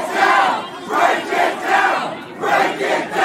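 A crowd of protesters inside the Capitol shouts together in loud, rhythmic surges, roughly five waves of massed voices rising and falling every half second or so, with no single speaker standing out.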